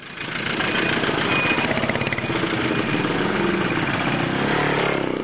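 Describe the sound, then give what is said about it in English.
Loud, continuous rumble of vehicle engines on narrow dirt roads in Juba, with a rapid pulsing rattle like a motorbike or truck idling and revving, as four-wheel drive vehicles, motorbikes and enormous trucks compete for space, filling the whole stretch without any talking. “On Juba's narrow dirt roads, expensive four-wheel drive vehicles compete for space with motorbikes and enormous trucks carrying consumer products and materials from Khartoum and neighboring countries, Uganda and Kenya.”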